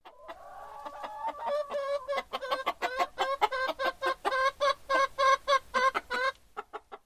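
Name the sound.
chicken clucking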